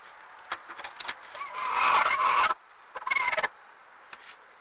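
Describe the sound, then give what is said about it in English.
A hen sitting in the nest in the middle of laying an egg gives a low, raspy growl close by after the egg door is opened: a long rising grumble, then a shorter second burst after a pause, with faint rustling clicks around it and no talking. “I went out to, I opened up the egg door to get the eggs out, and there was a chicken still sitting on, she was in the middle of laying, and she was not happy that I had opened the door, and so she made this sound.”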